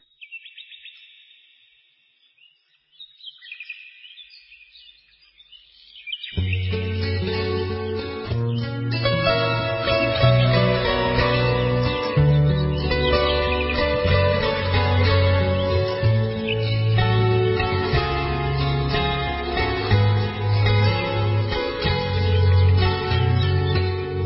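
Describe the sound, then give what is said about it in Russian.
Bird chirps play alone for a few seconds before the full instrumental intro of a recorded Orthodox religious song comes in, with steady bass and layered melody continuing loudly and evenly, with no singing yet. “Давайте сейчас послушаем вот одну из этих песен, о которых я сейчас рассказала.”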